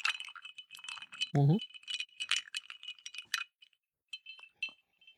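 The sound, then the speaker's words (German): Ice cubes clink and rattle rapidly against a glass as a gin drink is stirred on ice with a finger, with a brief low thump partway through, then the clinking thins to a few sparse taps. “Das Ganze rührt man auf Eis. Ich mach das mal so.”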